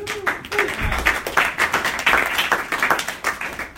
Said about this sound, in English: Big round of applause.